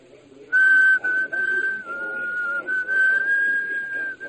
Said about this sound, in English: That is, until somewhere in the darkness, someone began a low, almost tuneless whistle. Everyone's attention was diverted for a second, and the single light went off.